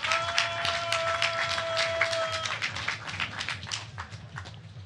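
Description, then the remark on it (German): A steady burst of crowd applause, many hands clapping densely for about five seconds, with a sustained whistle-like tone over the first half and a low musical hum underneath. “Applaus bitte.”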